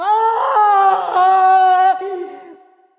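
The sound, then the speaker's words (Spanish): A woman climbing the scaffold for her execution lets out a single loud, anguished scream, drawn out for about three seconds with a wavering pitch before trailing off into a fading wail. It stands alone, with no talking. “Pero al subir al patíbulo, alza la faz con espanto y reconoce su casa, y se yergue, y de sus labios brota un terrible alarido que a todos infunde pasmo.”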